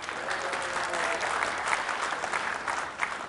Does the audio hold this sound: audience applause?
yes